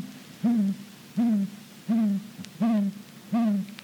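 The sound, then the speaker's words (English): A deep, monotonous owl hooting from a great gray owl: five low, evenly spaced hoots in a steady rhythm, clear, with no talking. “Great grays have a deep, monotonous hoot.”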